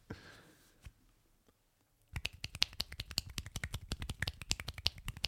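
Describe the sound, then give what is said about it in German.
After a short near-silent pause, someone claps rapidly and unevenly with one hand, a dense run of sharp smacks that imitates a round of applause. The claps stay steady in loudness until the end, and no one speaks. “du könntest jetzt theoretisch einen Applaus nachmachen”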